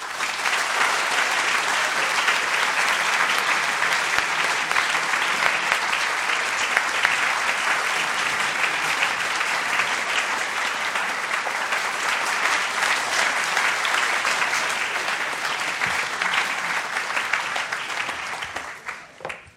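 Sustained applause from a large audience at the Free Library of Philadelphia welcoming two guests on stage, a dense steady wash of clapping that holds loud for nearly twenty seconds before tapering off at the end. No one speaks over it.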